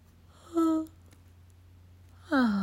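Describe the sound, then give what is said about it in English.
A breathy, voiced yawn sounds briefly, then after a quiet pause a second drawn-out yawn begins and runs to the end. Both are moderately loud, with no talking. “My classic yawn, it's back.”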